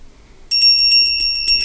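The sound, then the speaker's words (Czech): A small Christmas hand bell starts ringing abruptly and keeps jingling rapidly in a steady shaking rhythm, bright, with no voices. “Slyšíte ten zvoneček? To je přece Ježíšek.”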